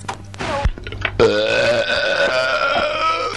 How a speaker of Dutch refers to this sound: Zo, als ik jou hoor boeren, laat ik weer los.